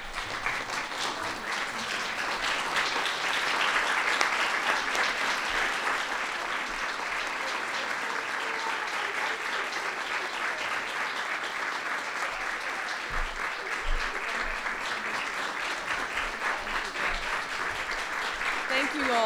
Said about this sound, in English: The applause should go to all of you. Thank you. Welcome. You guys, rest yourselves. You work hard enough. I don't want you to wear yourselves out clapping for me here in the White House.